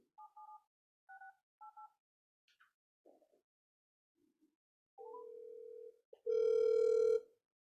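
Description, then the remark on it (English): Three short dual-pitched keypad tones beep as a number is dialed, followed by a few soft clicks, then a steady ringing tone and a louder, buzzy ring burst. No one speaks. “So while we're waiting for her to come back, in fact, I may just call her.”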